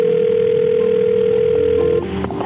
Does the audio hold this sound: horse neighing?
no